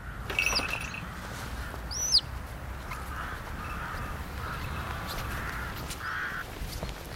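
A bird gives a couple of sharp, harsh calls after landing in bushes, in some ivy, the second one loudest, over steady outdoor background noise with no one talking.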